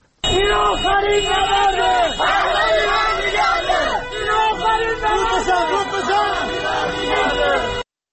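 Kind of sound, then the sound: crowd, protesters chanting slogans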